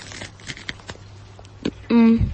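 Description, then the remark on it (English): Crisp, crackling crunches as someone bites and chews crispy food, a series of sharp irregular snaps, followed by a short, loud hummed voice sound at the end. “I'm allowing you to eat with your mouth open so people can hear the crunch.”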